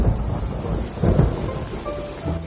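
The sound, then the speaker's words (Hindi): Steady rain pours down on a cemetery with a dense, hissing wash, while deep rumbles of thunder roll underneath, swelling near the middle and again toward the end; no one speaks. “कब्रिस्तान, बारिश हो रही है।”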